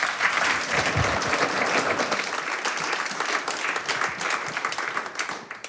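An audience applauds steadily, a dense wash of many hands clapping at a fairly loud, even level that thins slightly toward the end, with no voices over it.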